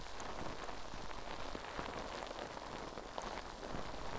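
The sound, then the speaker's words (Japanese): Foam bubbles fizzing right at the ear during an ear wash and massage: a dense, steady crackle of countless tiny pops and hisses, soft and continuous for a few seconds with no voices. “泡が耳元でシュワシュワする音、お好きですか？”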